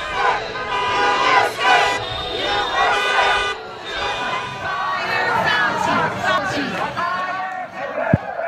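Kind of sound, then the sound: crowd, protest crowd shouting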